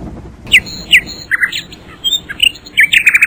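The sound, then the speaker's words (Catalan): A nightingale sings from a tree, a varied, lively phrase of sharp chirps, whistles and rapid trilled notes, clear with no voices, the song quickening into a fast series toward the end. “Qui canta tan meravellosament? Soc jo, em dic Rossinyol.”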